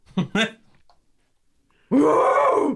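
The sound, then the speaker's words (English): A person imitates an ape: two short, throaty grunts, a brief pause, then a loud, drawn-out guttural groan that swells and falls away. “What is the point of being on a podcast where you're an actor if you are not going to do the ape noises?”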